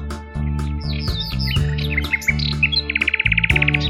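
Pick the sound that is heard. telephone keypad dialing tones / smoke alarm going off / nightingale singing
nightingale singing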